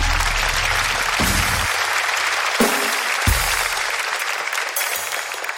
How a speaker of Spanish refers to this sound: Esta sección se llama Mamá. Un fuerte aplauso. Esto fue Mamá. Un fuerte aplauso.